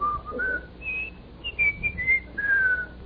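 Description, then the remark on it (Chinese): A person whistles a short melodic tune, clear, with several sustained notes rising and falling in a song-like phrase, imitating a parrot in a park in Indonesia that sings the Indonesian national anthem. “啊，在印尼动物园里，哎，不是动物园，在印尼的这个树影公园，有一只鹦鹉会唱印尼国歌。”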